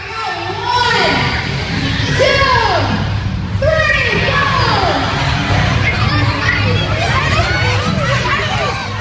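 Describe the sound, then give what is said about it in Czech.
A crowd of children shouting and squealing excitedly outdoors at a large public Easter egg hunt, many overlapping high voices rising and falling continuously with a steady background murmur of chatter. “Je to taková velká akce, kde se sejde spousta dětí a ty po písknutí začnou nabírat vajíčka.”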